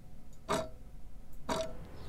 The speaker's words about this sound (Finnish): Mä olen elänyt lähes täysin kuulevana, eli kuullut ihan kaiken. Kellon tikitystä,